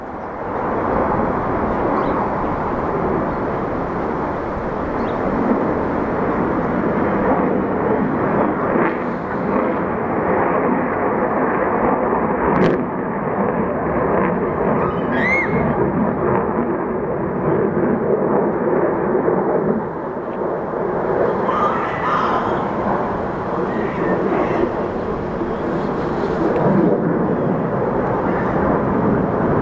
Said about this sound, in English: Here comes a fighter jet.